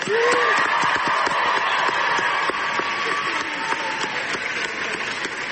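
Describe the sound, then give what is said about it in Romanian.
A crowd of students applauds steadily with dense, continuous clapping, joined by cheers and whistles rising above it, all sustained at a loud level throughout, welcoming Greta Thunberg at George Washington University in Washington, where she received an Amnesty International award. “Luni, Thunberg a primit un premiu al organizației Amnesty International la Universitatea George Washington din capitala Statelor Unite, unde a fost întâmpinată cu ovații de studenți.”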